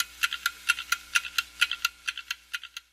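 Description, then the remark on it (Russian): Several clocks, about 150 years old, tick together at slightly different rates, their crisp clicks overlapping into an uneven, busy pattern. The ticking is fairly quiet, with no voices. “Каждый тикает на свой лад.”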